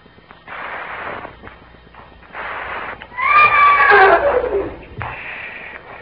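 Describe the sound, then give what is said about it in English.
A horse lets out a loud whinny with a wavering, descending pitch, framed by several shorter snorting or breathy bursts before and after. “Shut up, horse.”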